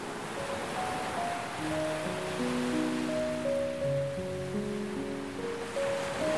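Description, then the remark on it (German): Steady, rushing ocean surf as dolphins swim through the ocean fills the scene with a continuous wash of water noise, while soft sustained musical tones drift underneath. No one speaks. “Nach einigen Metern über Wasser tauchen die drei schließlich unter und arbeiten sich in die Tiefen des Ozeans vor.”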